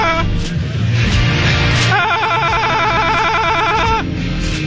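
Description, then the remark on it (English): A hotel phone rings with a rapid, high electronic warble that lasts about two seconds, sounding over a steady, loud background rumble. “Is that the most annoying sound in the world? That's my hotel phone”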